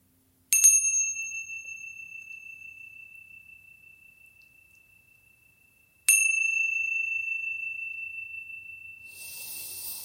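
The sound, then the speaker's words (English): A meditation chime is struck twice, about five seconds apart, each bright metallic tone ringing out clearly and fading slowly in the quiet, with a soft hiss creeping in at the end. “Wiggling your fingers, wiggling your toes, and when you hear the sounds of the chime, coming back into this space.”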